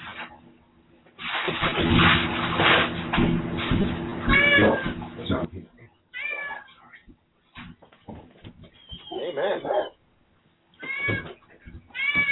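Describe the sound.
A cat named Hank meows several times in short, rising and falling cries, with bursts of noisy activity between them and a brief spoken word at one point.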